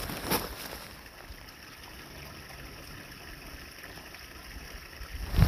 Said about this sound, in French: Non, c'est pas mon pipi matinal. C'est le ruisseau, puis c'est de toute beauté.